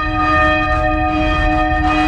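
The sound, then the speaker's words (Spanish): The bells of a Benedictine nuns' monastery ring with steady, sustained tones that hum and overlap, filling the space with a loud, continuous metallic resonance and a low rumble beneath, with no voices present. “Hoy es un programa especial y por ello hemos comenzado escuchando las campanas de un monasterio, en este caso de las monjas benedictinas, campanas que suenan así.”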